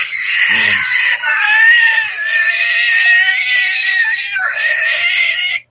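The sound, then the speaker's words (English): A person imitates the scream of a giant ant from the film Empire of the Ants: a loud, shrill, wavering screech held for several seconds, briefly dipping before rising again, unaccompanied. “And then ants come screaming in, literally screaming in.”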